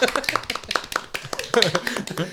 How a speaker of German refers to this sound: Und, okay, sorry, das Klatschen hat sich erst angehört wie so Vögel.